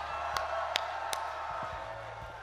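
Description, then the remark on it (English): A Dartmouth audience cheers in a steady wash of noise, with a few sharp bursts cutting through and scattered voices shouting and whooping toward the end. “Make some noise for yourselves.”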